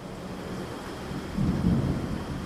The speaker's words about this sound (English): Another more violent storm hit, thrusting them deeper into the sea and washing their clock and sextant overboard.